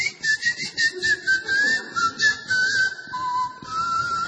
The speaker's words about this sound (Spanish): Por eso es el chiflido. Pero antes era mi voz, hasta que me quedé afónico como hoy y tuve que dormir afuera. Entonces lo cambié por el chiflido.